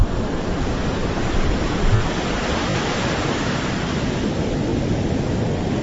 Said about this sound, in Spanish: Encima acá hay que tener cuidado, otro dato, por el tema de la marea, cambia mucho, sobre todo nos decía el guía que en luna llena y luna nueva baja mucho y sube mucho, pero escuchemos el sonido del mar. Escuchá.